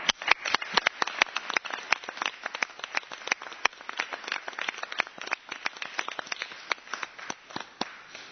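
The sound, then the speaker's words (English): A meeting audience applauds the members of the Department of Administration with dense, irregular clapping from many hands, steady and moderately loud for several seconds, with no voices over it. “I think we owe the members of our Department of Administration a round of applause.”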